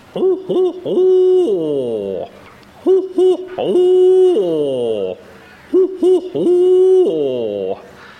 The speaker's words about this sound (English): Down in the river swamp, you can hear the owls start communicating with each other.